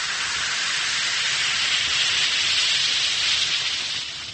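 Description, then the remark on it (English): A steady fizzing hiss of one or two Alka-Seltzer tablets dissolving in a glass of water, dense crackling effervescence holding level for several seconds before easing slightly at the end, with no voices. “Drop a tablet or two in a glass of water like this. Listen to it fizz.”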